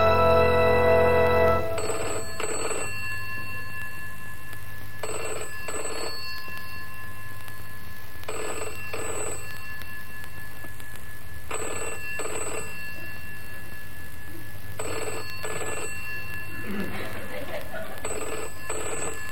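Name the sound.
telephone bell ringing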